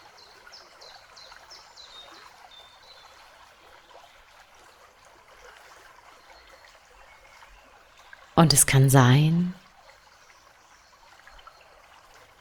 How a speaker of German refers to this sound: dass so langsam einfach nur noch dein Atem und das Plätschern des Flusses wirklich präsent sind.